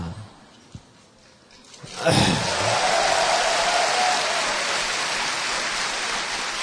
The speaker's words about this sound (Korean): 아니, 설교 시간이 박수 치는 것도 아주 낯설어요. 당분간은 하지 마세요, 그거. 제가 좀 이렇게 적응이 될 때까지.